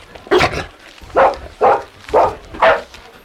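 A dog named Timmy barks loudly five times in an uneven rhythm, greeting someone approaching, with short pauses between each bark and no voices.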